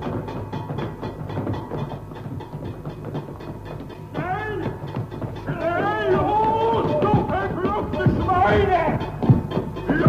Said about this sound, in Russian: Слышен стук деревянных колодок, в которых ходили узники.